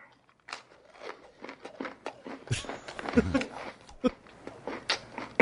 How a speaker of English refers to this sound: Let's just listen to the guy eat for a moment.